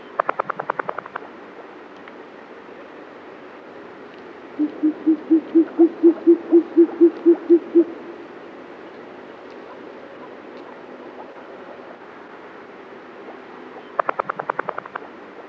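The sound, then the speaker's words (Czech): Short-eared owl calls: a steady run of about a dozen low, soft, evenly spaced hoots over a faint rushing background, with brief rapid clattering bursts at the start and end. “Pustovka je tak jednou z mála sov, které loví ve dne.”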